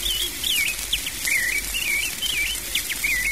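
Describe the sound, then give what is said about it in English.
A robin chirps and warbles in an old cherry tree in quick, bright phrases, repeating steadily throughout over a constant hissing outdoor background, clear. “Robin Redbreast chirps merrily in the old cherry tree.”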